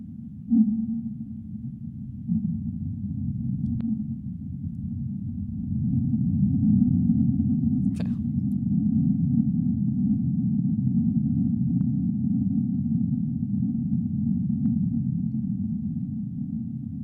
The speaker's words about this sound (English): So those are the whales, yeah. Yeah. Cute. Yeah. Yeah. Man, and this is sped up. Yeah, yeah. And there's the rumbling noise is the earthquake coming up.